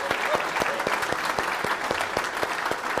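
A crowd claps steadily, with many overlapping hand claps forming a dense, fairly loud wash of applause and a few sharper individual claps standing out throughout, applauding the pianists and organists as a gift is given to them.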